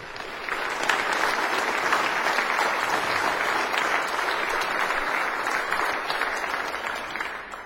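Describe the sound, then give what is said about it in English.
A large audience claps steadily for several seconds to thank a children's choir and other children who took part, a dense, sustained round of applause that starts abruptly and tapers slightly toward the end, with no voices standing out. “We'll give them one final round of applause to thank them.”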